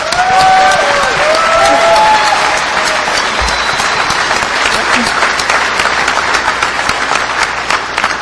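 An audience bursts into a sustained round of applause, dense crackling claps filling the whole clip at a steady loud level, with a few whistles and cheers rising over it at the start.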